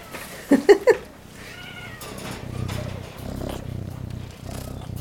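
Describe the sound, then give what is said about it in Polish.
A cat purrs, a low, steady rumbling that pulses rhythmically through the second half, after a few short, sharp sounds near the start. “Mruczy, ale nie chce miauczeć.”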